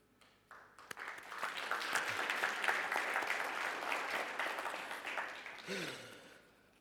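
An audience applauds a speaker, a dense wash of clapping that swells quickly, holds steady for several seconds, then tapers off and fades out near the end.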